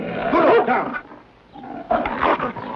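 A bear dog growls and snarls in two rough, throaty bursts separated by a short pause, fairly loud with no other sounds around it.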